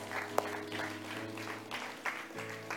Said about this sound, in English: Can we just clap for that?